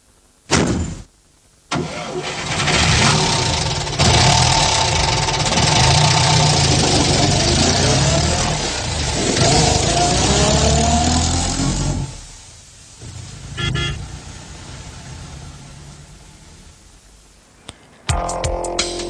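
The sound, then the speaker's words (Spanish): A Madrid night bus engine cranks to life with a short burst, then rumbles loudly and steadily before easing off and fading as the vehicle pulls away, with no one talking. “sí, amigas y amigos, ahora sí que nos subimos a ese autobús, por fin, autobús nocturno 223 de Madrid, de Luna Miguel.”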